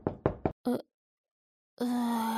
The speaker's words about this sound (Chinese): 谁在敲门啊？是爸妈回来了吗？弟弟，你等着哈，姐姐我去开门。